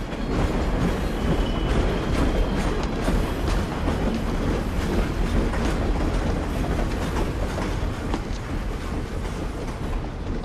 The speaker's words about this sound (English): He runs up the steps to the platform just as the train is pulling out.